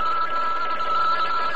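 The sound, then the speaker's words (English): A telephone rings with a steady, continuous electric trill, fairly loud, filling the whole moment without any voices over it. “Uh-oh, telephone's ringing.”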